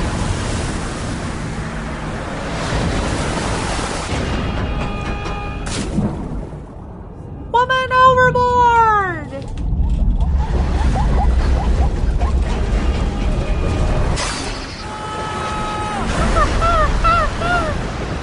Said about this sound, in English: It was clear skies a few minutes ago, but storm clouds are gathering and the wind is blowing and things don't look so good for this little boat.